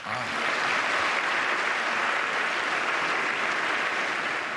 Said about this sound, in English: Yes, an idea worth standing and applauding for.